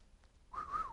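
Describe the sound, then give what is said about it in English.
A short, breathy attempt at whistling: an airy rush that firms into a thin, wavering tone for under half a second, with no talking. “I can't even whistle.”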